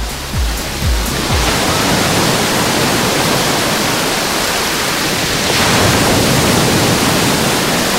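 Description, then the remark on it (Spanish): Mediterranean Sea waves crash and wash against the breakwater of La Charca beach, just below the lifeguard post, in a steady roar of surf, swelling louder toward the end, with a few low thuds early on and no voices. “Yo estoy en el rompeolas de la playa de la Charca, justo debajo del puesto de salvamento, y el sonido del mar, lo que disfrutan ahora los playeros y playeras que me acompañan, es este.”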